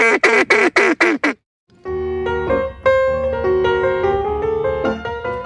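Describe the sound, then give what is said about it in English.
Five quick, loud quacks from a duck call in a steady rhythm, then a brief pause before a long, buzzy, wavering tone that carries on to the end, as a group called the swamp witches practice their duck calls at night while drinking wine and laughing. “The swamp witches stayed up, drinking wine, laughing, and, of course, practicing their duck calls.”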